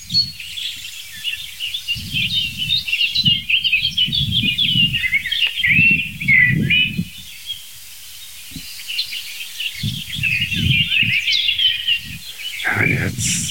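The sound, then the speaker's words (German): A few sharp scolding calls from a song thrush, one of three on the ground, sound on a windy day over a steady wash of high-pitched bird chatter, with intermittent low rumbling bursts underneath. “Ein paar Schimpfer von der Singdrossel.”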